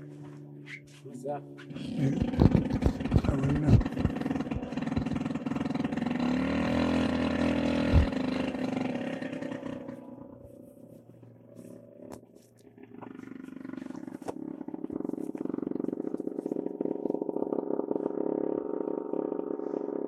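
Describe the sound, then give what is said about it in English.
A loud, rumbling roar of an airplane flying overhead swells over several seconds, then fades away, followed by a steadier low hum, with a person briefly talking. “Airplane.”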